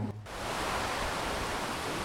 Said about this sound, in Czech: Teď jsme postupně přešli po mostě a zvuk čištění toalet vystřídal zvuk řeky Vidry. A to je tady mnohem příjemnější.